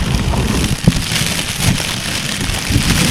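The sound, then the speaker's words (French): Steady rain falls with a dense hiss, punctuated by scattered louder drops and soft low thuds, filling the whole scene at a constant level with no voices. “Il a commencé à pleuvoir.”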